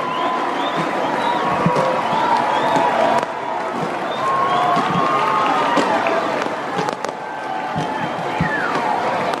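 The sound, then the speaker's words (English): Fireworks bang overhead at scattered moments over a huge, continuous crowd roar as Virginia celebrates winning the college baseball championship, the sharp pops cutting through steady cheering and shouting that fills the whole scene. “Fireworks going off overhead.”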